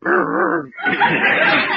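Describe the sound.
A man's voice imitates a dog, making a continuous gruff, growling bark-like noise for about two seconds, loud, with a brief break midway.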